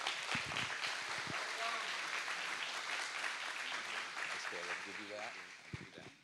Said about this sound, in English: And so will you just clap and cheer for him as he comes to the stage?